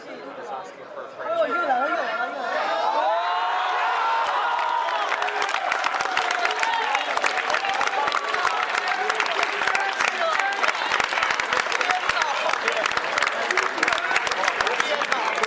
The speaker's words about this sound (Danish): Det var en robot, der meget tæt på målstregen prikker den ind over næsten en Saki-style, der udløste den her klapsalve.